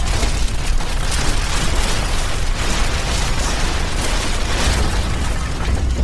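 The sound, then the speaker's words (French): A building collapses in a sustained, roaring avalanche of rubble, a loud continuous rumble with dense crashing debris and deep low-end thunder lasting several seconds, no voices. “Une avalanche de gravats. Le bâtiment s'effondre comme un château de cartes.”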